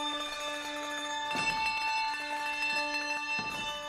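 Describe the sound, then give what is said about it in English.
Handbells ring out a melody, many clear sustained tones overlapping and decaying, with a couple of brighter struck notes cutting through the shimmering wash of pitches; a band plays a song on handbells at a live show with the audience, who play bells on a phone app. “playing a song on handbells with the audience, who are all playing bells on a special app they downloaded to the phones for the live show for this song.”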